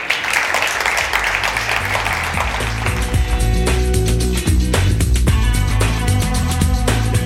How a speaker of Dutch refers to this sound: Zullen we een applaus geven en bedanken?